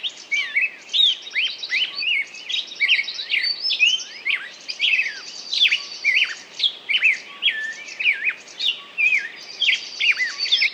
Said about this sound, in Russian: Это было часа, наверное, в 4 утра. И вот утром этот птичий хор на разные голоса, этот птичий концерт, он меня разбудил, и я понял тогда, что лучшей музыки для просыпания вообще быть не может.